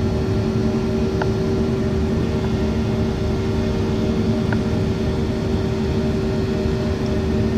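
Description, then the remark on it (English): Aircraft engines running at high speed in overcast weather roar in a steady, unbroken drone with a low humming tone running through it, loud and constant throughout, with no voices and only a couple of faint clicks. “High speeds, this weather, because it is overcast weather, you know, so it's probably doing a number on the engines a bit at this high speed.”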